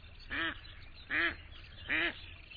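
A duck quacks three times at an even, unhurried pace, each call a short nasal honk that rings out clearly over a quiet background.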